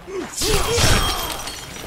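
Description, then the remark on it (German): A crisp, glassy shattering burst of ice, like a video game effect, bursts out loud and bright, then its tinkling clinks linger and fade. A brief vocal sound comes just before it. “Wie die so klirren, wenn die Eismus, ne?”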